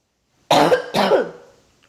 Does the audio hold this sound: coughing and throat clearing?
yes